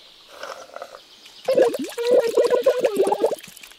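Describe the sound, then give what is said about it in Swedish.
A milkshake being slurped through a straw: a soft hum first, then about two seconds of loud, bubbly, gurgling sucking bursts in an uneven rhythm. “Nu får det räcka med sörplande för nu.”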